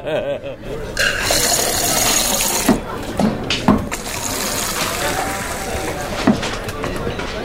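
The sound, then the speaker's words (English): Beer is poured over a person to cool them down, coming out in a steady, continuous splashing stream lasting several seconds, with a few sharper splats along the way and people talking over it. “I have to cool down with the beer. Oh, that's a good idea. Right. Oh, will you pour it over me?”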